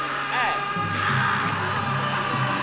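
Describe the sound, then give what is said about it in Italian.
Loud shouting and yelling voices fill the whole stretch, rising into a brief cry early on, with a noisy, crowd-like roar underneath throughout. “Anche un urlo, un urlo.”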